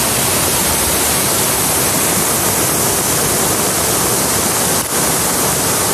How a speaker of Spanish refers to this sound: Se sigue haciendo notar sobre todo en Andalucía. Sigue lloviendo, como estás escuchando, en la zona gaditana de Grazalema, donde han caído cerca de 480 litros por metro cuadrado.